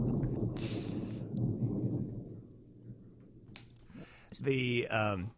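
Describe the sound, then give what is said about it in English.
A deep, rolling rumble of thunder swells over the first couple of seconds and slowly fades, followed near the end by a person speaking briefly. “I'm sorry, I had to get out of the way of the thunder.”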